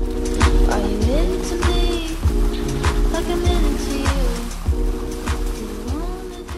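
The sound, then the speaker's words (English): Lake sturgeon splash and thrash in shallow water while spawning along the shoreline of the Wolf River in Wisconsin, with repeated irregular slaps and sloshes over a steady rush of water and a low droning hum underneath. “And over the past year, the DNR has posted about 150, like this watery one with a caption that reads, "Lake sturgeon have started spawning along the shoreline of the Wolf River."”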